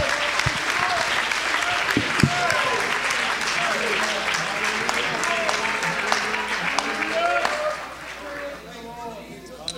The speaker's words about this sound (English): Let's have powerful faith, powerful and large faith. Somebody clap your hands and praise him right now.